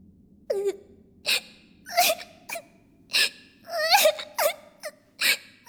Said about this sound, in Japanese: あ、どうして泣いてるの、グレーテル？